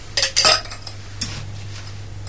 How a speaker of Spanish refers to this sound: Bueno, primeramente el cóctel lleva un toque de granadina, que es lo que acabo de hacer. Después procederé a echarle el hielo.